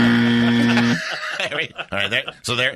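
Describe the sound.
A game show buzzer blares for about a second, a loud, harsh, steady low drone rich in overtones, then cuts off as people start talking and chuckling.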